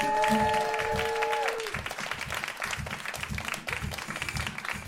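Loud, steady audience applause as the first guest of the cat quiz is brought out fills the whole stretch, starting under a short sustained musical chord that fades out, with a rhythmic low thumping beat continuing beneath the clapping.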